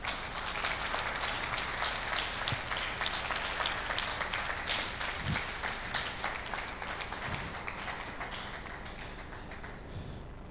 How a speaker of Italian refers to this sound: digli che lo amiamo, proprio in base a questa parola, portagli questo saluto d'amore da parte nostra, diamogli questo saluto con un applauso.